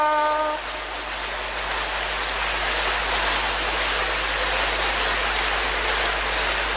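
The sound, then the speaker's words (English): A crowd claps steadily for several seconds, applauding a person, a dense, even wash of many hands with no voices, after a brief tonal hum at the very start. “You want to clap for him.”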